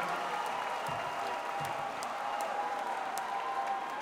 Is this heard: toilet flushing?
no